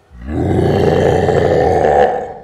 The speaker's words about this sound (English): A beast of 10 feet roared into the town hall, its hungry eyes glazing over every pony. Its body was made out of some sort of magical sludge and teeth.